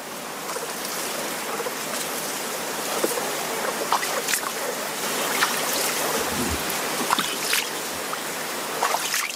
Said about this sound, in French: J'entends les roseaux, les oiseaux, les grenouilles, le clapotis de l'eau, et j'entends même un moteur qui vrombit quelque part.